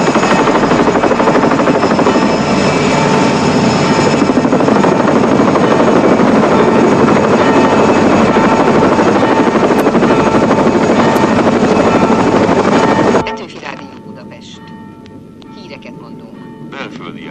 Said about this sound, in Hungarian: Helikopter, indul!